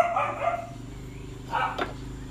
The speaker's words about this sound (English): I apologize. My dogs are barking in the back. They're getting all excited.